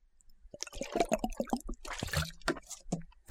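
Liquid sounds of someone drinking Tibet original aloe drink from a large green bottle: a quick run of small gulps, sloshes and swallows, fairly quiet and with no talking.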